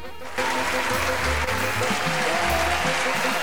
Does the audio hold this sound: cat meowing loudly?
no